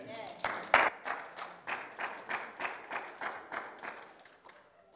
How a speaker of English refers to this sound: Give the Lord a big clap again. He's worthy to be praised. Amen.